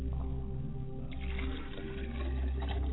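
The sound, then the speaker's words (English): Water is poured as a libation in a steady, continuous stream, splashing and gurgling for a few seconds with no voices. “And finally, I pour libations to the west, and I say Ashe.”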